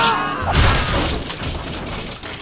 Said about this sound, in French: Boulet de canon! Attention!